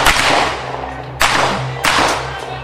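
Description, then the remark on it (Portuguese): Three loud, sharp gunshots from a shooter on a shooting course at a range ring out in uneven succession, each cracking sharply and then trailing off into a reverberant echo, with a steady low rumble of background noise underneath. “Acabou mesmo agora de fazer alguns disparos.”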